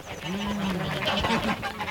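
A flock of ducks quacks noisily, with several nasal calls overlapping in a continuous chorus and no voices.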